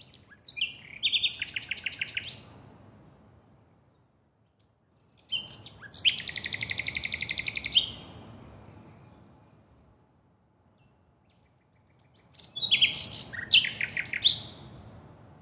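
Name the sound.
common nightingale singing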